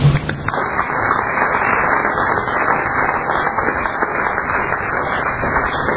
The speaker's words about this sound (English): You all need to applaud yourselves.